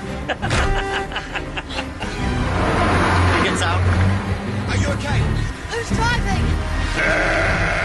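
Sheep bleat repeatedly in wavering, quavering cries inside a moving truck, over a steady low vehicle rumble, loud, with some background commotion mixed in.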